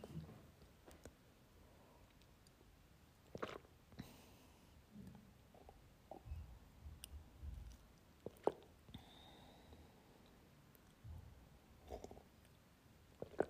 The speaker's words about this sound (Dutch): Een slokje van mijn thee nemen.